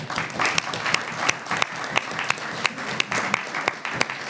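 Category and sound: crowd, applause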